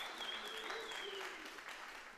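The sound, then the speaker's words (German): An audience at a robot competition claps steadily and densely as contestants are on stage, a continuous wash of applause with faint whoops and cheering voices rising above it, sustained at an even level throughout. “Einen großen Applaus.”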